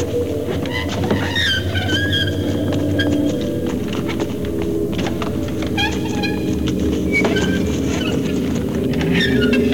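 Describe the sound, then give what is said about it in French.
High, thin creaking squeals of metal scraping on sandy, gritty stone come in short repeated bursts, clearly audible over a steady low rumbling drone with scattered clicking footsteps throughout. “Il y a d'autres sons en plus, hein, il y a toujours la trame, il y a les pas à l'endroit, et il y a cette espèce de grincement dont on a déjà parlé hier ou avant-hier, de métal sur pierre, sur granuleux, enfin sur sableux, qui intervient”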